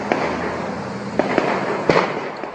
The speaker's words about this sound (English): This video with the obvious audio there posted on YouTube captured some of that gunfire and commotion.